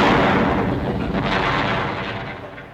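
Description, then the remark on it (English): A loud, roaring explosion of a barrel of saxophones: a dense, rumbling blast of noise that holds steady for nearly three seconds before easing off slightly at the end, with no voices. “I'm tied to this barrel of exploding saxophones!”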